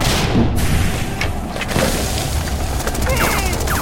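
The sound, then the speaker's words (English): A grenade explosion: a loud, booming blast with a heavy low rumble that carries through the whole clip, broken by several sharp cracks and clattering bursts toward the end. “No! Grenade! Take cover!”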